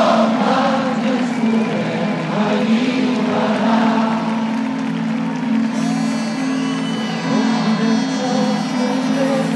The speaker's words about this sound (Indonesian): Demonstrasi berlangsung hingga jauh malam hari, di mana para demonstran bernyanyi-nyanyi di sepanjang jalan di Catalan.